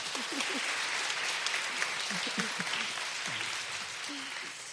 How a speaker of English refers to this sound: So, round of applause.